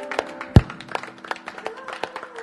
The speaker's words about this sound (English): Can we clap our hands to the Lord in this place?